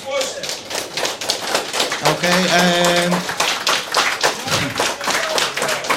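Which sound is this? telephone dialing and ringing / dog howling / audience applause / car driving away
audience applause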